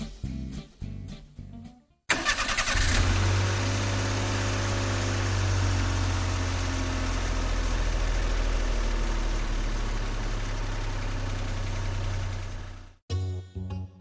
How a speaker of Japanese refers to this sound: さあエンジンをかけて新しい旅へ出発しましょう。